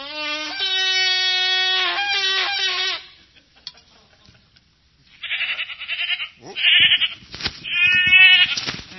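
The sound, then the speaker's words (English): Several ewes bleat loudly, a long quavering call first, then a pause and a cluster of overlapping bleats with some rustling and shuffling underneath. “Where could those ewes have gone? They're all females, too, you know.”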